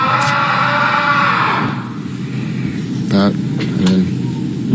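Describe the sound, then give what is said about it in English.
Someone shrieks twice in quick succession, short loud vocal bursts that cut through a noisy, rumbling baseball clubhouse, following a stretch of louder crowd-like commotion. “Just someone in the clubhouse. I relate. Shrieking in.”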